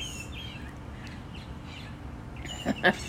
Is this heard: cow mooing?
no